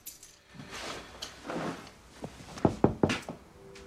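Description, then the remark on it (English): Soft rustling and shuffling give way to three quick, sharp knocks on the door of a flat at night, evenly spaced and fairly loud, with no voices. “He turns on the light, shuts the door and takes off his coat when someone knocks.”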